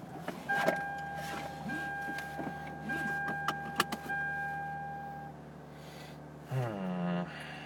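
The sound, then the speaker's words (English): A car's interior hums with steady electronic tones and a few clicks, then near the end an engine cranks and whirs up to a loud idle. “Start car.”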